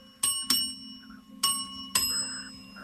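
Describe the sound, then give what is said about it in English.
A small bell is struck four times in two quick pairs by a man ringing in to answer a physics quiz question, each bright ding ringing on with a lingering metallic tone; no one speaks over it. “He's headed towards the bell.”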